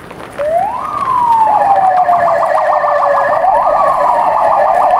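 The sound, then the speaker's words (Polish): A loud police siren wails upward, then switches to a rapid warbling yelp that repeats steadily, with no voices present, during a riot-control training exercise of regional police prevention units in Silesia, Poland. “Tym razem na szczęście nic się nie stało, a te dźwięki pochodzą z ćwiczeń wojewódzkich oddziałów prewencji.”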